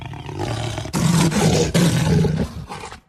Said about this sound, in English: And Stephen says that there's only one big cat native to the Western Hemisphere that roars, and that's a jaguar. Here's a clip of a jaguar.